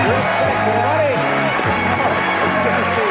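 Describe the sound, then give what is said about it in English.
A loud crowd roars steadily for about three seconds, many overlapping voices shouting and whooping at once in a continuous wall of excited cheering. “Wow, they're showing a crowd shot, and two guys got really excited. They, like, stood up and clapped for Chuck.”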